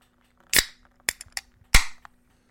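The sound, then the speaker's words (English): A can of Alesmith IPA beer cracks open with a sharp pop and brief fizzing hiss, followed by a few small metallic clicks and a second crisp snap and hiss that fades quickly. No talking. “I'm going to crack mine. I'm going with an Alesmith IPA.”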